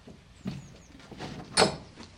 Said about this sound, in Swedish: Stänger vi till denna granna port. Ja. Och låser ordentligt. Så där.